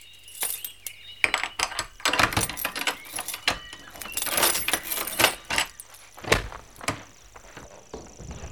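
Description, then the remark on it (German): Metal keys jingle and clink in irregular bursts for several seconds, with rattling and scraping as a lock is worked and the door of a hut unlocked; a faint low hum runs underneath and no one speaks. “Ich mach die Tür auf.”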